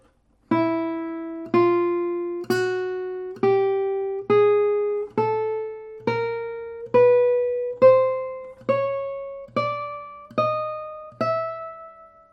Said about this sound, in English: I will play you the first string to the sixth string and you will hear the trebles. They are magical. They are ringing like a bell.